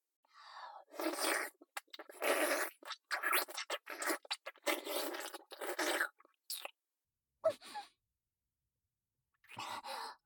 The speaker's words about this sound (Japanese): 先輩、今足音が。これ、もしかしてここに。隣の部屋みたいですね。